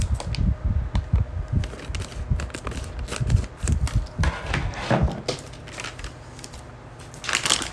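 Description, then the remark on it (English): Scissors snipping into a crinkly plastic package of gummy summer drinks candy, with a steady run of sharp cuts, clicks and crackling rustles for several seconds and no talking. “Handy dandy scissors.”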